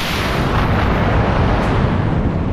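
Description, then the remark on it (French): A cannon with a lit fuse fires a rocket with a loud, continuous roaring blast, a dense rumbling rush that stays steady for the whole stretch, with no voices. “Alors là, je m'enflamme et la mèche du canon aussi.”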